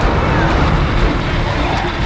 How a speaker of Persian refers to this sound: گیتون، چند تا ماشین داره میاد، باید جلوشونو بگیری.